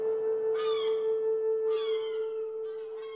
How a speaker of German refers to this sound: Vögel begleiten dich mit ihrem herrlichen Gesang.